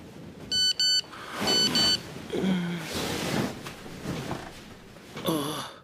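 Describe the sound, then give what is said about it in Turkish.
Bright electronic beeps of a text message alert: two quick high-pitched tones, then another pair a moment later, over a noisy background. A short chirpy burst follows near the end. “Julia'dan bir SMS daha.”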